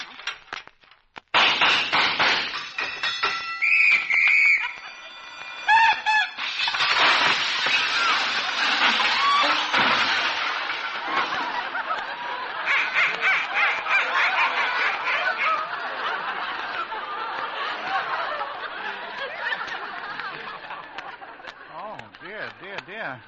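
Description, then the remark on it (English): The hinges of a jail door squeak and creak loudly as the door is unlocked with a key and opened, in a long, drawn-out grinding squeal that lasts about twenty seconds, with rasping, shifting pitches and a few sharper squeals near the start. “I guess the hinges squeak a little.”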